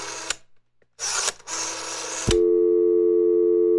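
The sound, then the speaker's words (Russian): Rustling, scraping handling noises as a phone is picked up and a number dialed give way to a steady, loud electronic telephone ringback tone that holds unbroken to the end, with no one speaking. “взяла телефон, перевела его в режим сказочных переговоров и набрала номер Добрыни”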